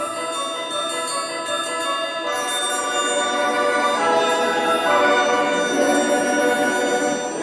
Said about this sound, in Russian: Раздался звон серебряный.